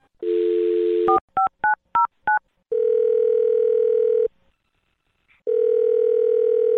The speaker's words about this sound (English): Okay, I'm going to dial her phone number right now and see if we can figure out why she's not calling you back. Here we go.